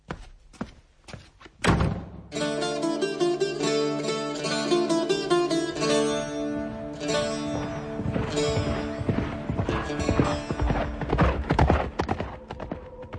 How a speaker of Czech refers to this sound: Voda se chvěje. Slyším dusot kopyt.